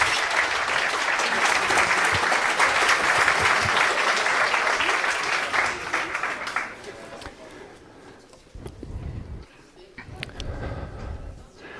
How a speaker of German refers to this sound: Dafür war das ein unglaublich tolles Intro und Spiel. Applaus für euch.